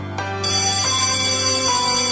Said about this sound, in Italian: C'era una campana.